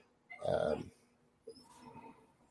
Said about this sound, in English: you'll have to excuse my dog in the background. He's losing his marbles and then some.